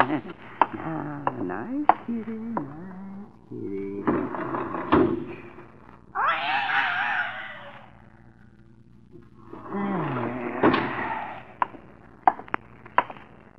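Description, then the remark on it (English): A door to the hall creaks and scrapes open as a cat goes out through it, with a few sharp knocks and clatters around it and a low hum underneath; faint voices murmur in the background. “The door to the hall. Oh. Cat just went out the door.”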